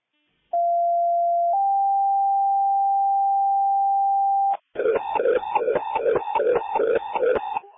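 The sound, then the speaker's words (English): A steady two-tone Ellsworth EMS dispatch pager alert, paging out another ambulance for a woman who fell in front of the sheriff's office: a short lower tone steps up to a longer, higher held tone for about three seconds, then a voice begins talking over a radio channel. “go ahead and page out another ambulance for in front of the sheriff's office”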